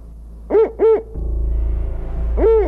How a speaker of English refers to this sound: And then all of a sudden there's like this whoosh. And like 20 feet in front of us on this tree branch lands this spotted owl.